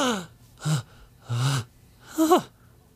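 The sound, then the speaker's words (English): A voice acts out a little dwarven boy's gasps: four sharp, breathy intakes of air in quick succession, fairly loud, the last one rising into a strained, voiced squeak. “The little boy... gasp.”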